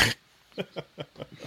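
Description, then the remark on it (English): A short burst of noise, then a rapid, rhythmic run of about six snorting, honking gasps, like reverse sneezing, fairly faint, with no talking. “You're worthless for another 2 sneezes, woman.”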